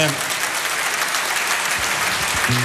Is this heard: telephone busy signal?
no